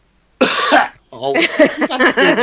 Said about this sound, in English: It was a cacophony of coughing.